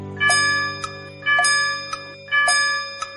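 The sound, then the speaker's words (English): A clock chimes three times, each bright, ringing strike spaced about a second apart and followed by a lighter click. The tones are clear, with a steady hum underneath and no talking. “The lion went out the clock. The clock struck three.”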